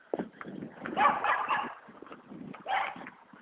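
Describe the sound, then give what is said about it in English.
Dogs that are out bark in a couple of clustered, noisy bursts, with quieter yelps and rustling in between; no one speaks. “Oh, the dogs are out.”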